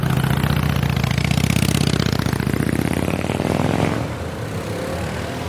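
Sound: motorcycle engine idling nearby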